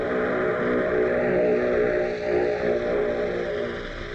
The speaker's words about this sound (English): Cochrane, a red-headed Irish boy, taxis his plane to a halt before number one hangar, drags himself out of the seat, and is met by Hendrick, the squadron CO.